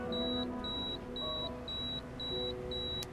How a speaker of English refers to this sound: That's why my address book is alphabetical by city, and my pager will always go off during dinner.